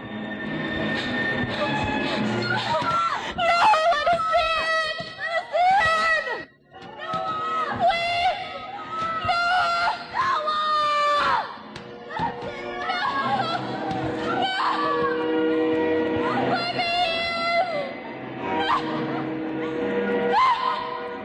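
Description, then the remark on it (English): A crowd of people, portraying the people of Noah's day, screams and wails together, overlapping anguished voices rising and falling loudly and continuously, with only one brief lull before the cries surge again. “We see the people in Noah's day as they begin to scream, and Noah, let us in.”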